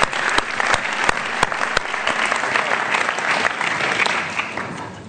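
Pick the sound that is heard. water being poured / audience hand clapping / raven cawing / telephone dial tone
audience hand clapping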